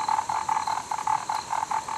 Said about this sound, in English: The cicadas thrill to a different melody, and the croaking frogs promise the arrival of the rain god.